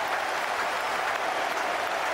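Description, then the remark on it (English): A cricket crowd roars and applauds after Michael Vaughan's 15th century, for England against Australia, a dense, steady wash of clapping and cheering that holds at full volume throughout, with no speech over it. “Listen to the roar goes up.”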